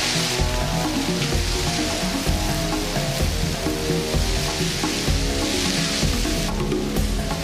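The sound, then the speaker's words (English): A dense, steady crackle and rustle of a swarm of locusts in Africa, triggered by the rains, like sizzling or pattering rain, holds an even loudness throughout, with low tonal music running underneath. “Triggered by the rains, an all-devouring army. Locusts.”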